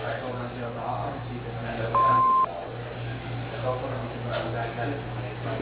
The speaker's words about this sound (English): Please leave your name and number at the end of the beep, and one of the guys will return your call.